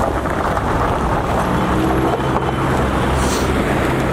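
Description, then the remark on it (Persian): Cars drive over icy city roads in Kabul on a sunny Tuesday morning after two days of snowfall. A steady low rumble of tires carries a gritty, crackling crunch of breaking ice for the whole stretch; no voices. “با عبور موترها از جاده ها صدای شکستن یخ ها گوش های آبیران را نوازش میکند، اما این جاده های یخی برای رانندگان مشکل زا شده است.”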